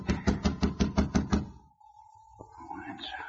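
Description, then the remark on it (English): A man knocks a quick, even run of about eight loud knocks on a wooden cabin door, followed by a lull and faint creaking and shuffling. “As he waited for the door to open, Jim looked over his shoulder nervously. Then he knocked again.”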